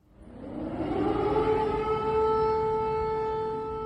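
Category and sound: signal or alarm, air raid siren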